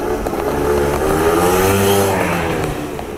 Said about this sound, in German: Fürs Fahrrad ist Ihnen der Weg an den See zu weit, aber im Auto ist es zu heiß. Bei dem schönen Wetter auf dem Motorroller setzen und ab dafür.